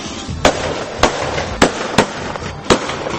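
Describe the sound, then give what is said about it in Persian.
Five sharp rifle shots, fired into the air, crack out at uneven intervals, each loud and abrupt with a short ringing tail, over a steady background rumble and hiss, as a man tries to alert a train's locomotive driver. “تفنگشو برداشت و شروع کرد به شلیک هوایی.”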